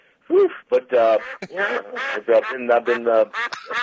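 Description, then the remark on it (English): A rapid run of nasal duck quacks, loud, about ten short honking bursts in an uneven rhythm with brief gaps between them. “We do that when if he had said, "Well, I wish it were duck season," then you'd hit that sound.”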